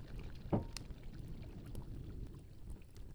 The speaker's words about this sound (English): Pour it into the bottle. Yes, just like that, to the top. Careful not to spill.